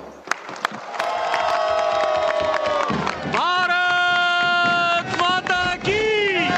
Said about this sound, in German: Die Delegation des indischen Ministers für Tourismus und Kultur bricht in Jubel aus und schwenkt Fähnchen.